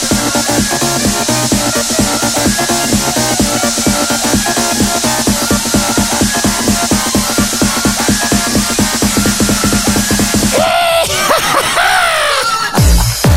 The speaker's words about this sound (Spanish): Estoy practicando el grito mexicano.